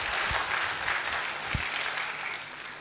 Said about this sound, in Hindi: एक तालियां सबके लिए जोरदार।